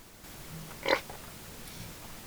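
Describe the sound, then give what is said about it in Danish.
A single short pig grunt, moderately loud, rises briefly over a low, steady background murmur. No one speaks. “århundrede, der vrimlede det med grise på Ambrun.”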